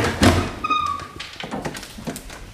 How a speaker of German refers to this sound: Jetzt sind wir im historischen Bereich. Hier knarzen auch die Türen, das dürfen Sie auch. Das gehört dazu.